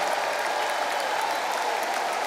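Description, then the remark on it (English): An audience applauds and cheers in praise of God, without music. A dense, steady roar of clapping hands and raised voices stays loud and even throughout with no pauses. “I think we ought to give God the loudest praise that we've given him all day.”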